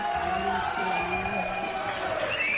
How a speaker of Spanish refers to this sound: estaban aplaudiendo la canción, que es un éxito de última hora.